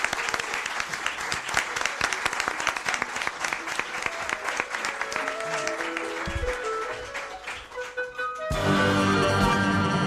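Audience applause, dense, steady clapping for about eight seconds, the first applause of the morning, thanking the president of the Matritense, the hosting institution in Madrid; it gives way abruptly to a loud burst of music with sustained tones.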